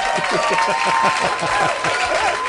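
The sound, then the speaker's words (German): Loud, steady applause from a crowd, a dense wash of many hands clapping at once, with faint voices mixed into the noise throughout the short burst. “Lärm ist super, hier kommt ein Applaus.”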